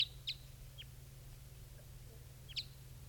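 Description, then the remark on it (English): Several short, high-pitched bird calls chirp sporadically, two close together at the start and another a few seconds later, over a steady low hum, from birds at a capture net as one of them is caught. Nobody speaks. “One of the birds has just been captured.”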